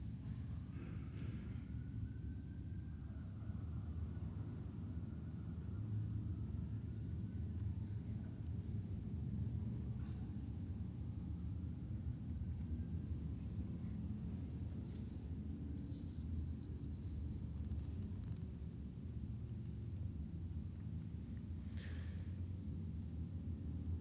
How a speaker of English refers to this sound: Let our motorcycle tour pass.